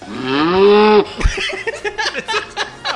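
A single loud cow moo, drawn out for about a second with a rising pitch, is followed by people talking and laughing.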